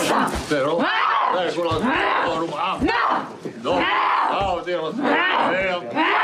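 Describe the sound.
A voice imitates the demonic growl a possessed woman makes during an exorcism, loud, in long strained bursts with wavering, rasping pitch and brief gasping breaks between them.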